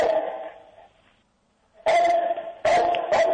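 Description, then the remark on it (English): A dog barks loudly, two sharp bursts of barking after a brief lull, the second breaking into quick back-to-back barks. No one speaks. “Hey, Morty, you have a dog? What's your dog's name?”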